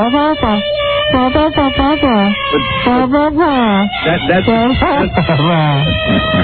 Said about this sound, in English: She didn't deserve that, but she did get the new special operatic horn.